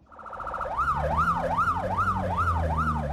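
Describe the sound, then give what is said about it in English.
A Johannesburg Metro Police siren wails in a fast, repeating rise-and-fall pattern, loud, with a steady low engine rumble underneath, as the police vehicle rushes to a car crash scene in South Africa; it starts with a brief rapid pulsing tone before the sweeping wail takes over. “Johannesburg Metro Police rushed to another car crash scene.”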